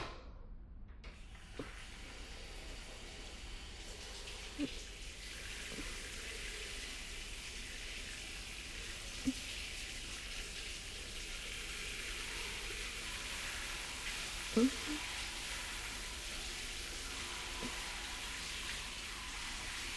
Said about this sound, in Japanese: シャワーかけるわね。